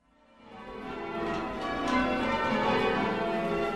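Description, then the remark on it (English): Church bells from the church in the center of Chagford, a town in Devon, southwest England, ring out together in a dense, overlapping peal, swelling up from quiet to a full, steady clangor of resonant tones with no voices present. “Now, here's one English tradition that hasn't changed all that much, the ringing of church bells in the rolling hills of southwest England.”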